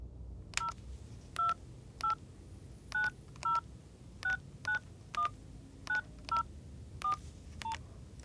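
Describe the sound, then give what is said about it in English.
A telephone number being dialed: about fourteen short, even touch-tone beeps in a steady, slightly uneven rhythm, clear over a low background hum, with no one speaking. “I'll make the coffee while you phone Peter”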